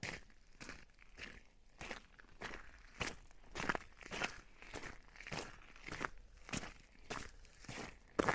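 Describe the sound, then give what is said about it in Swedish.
Footsteps in shoes crunch across ice in a steady walking rhythm, each step a sharp, crackling impact with brittle high-pitched cracks between them. No one speaks. “Så jag skulle kunna gå här på...”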